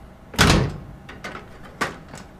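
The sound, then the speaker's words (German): A door swings open with one loud, heavy thunk, followed by a few softer knocks and rattles as it settles. No voices accompany it. “Mach auf! Mach auf, verdammt! Oh, offen.”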